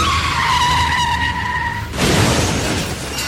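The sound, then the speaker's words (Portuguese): A car brakes hard with a loud, high-pitched tire squeal lasting about two seconds, then breaks into a rough, noisy skid that scrapes on to the end. No one speaks. “Chefe está freando. Chefe está derrapando.”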